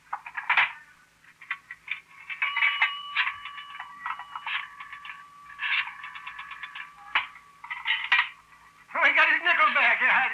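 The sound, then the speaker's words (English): A coin telephone that takes a nickel being dialed: a run of quick clicking and ratcheting bursts, clear, over a faint steady hum, with a voice speaking briefly near the end. “Where's your phone? It's right there. It's a nickel.”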